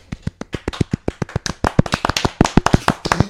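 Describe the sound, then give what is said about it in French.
Scattered applause from a small group, sharp irregular claps that start sparse and thicken into a denser patter, fairly loud with no voices. “Tout le monde a mis du temps à applaudir”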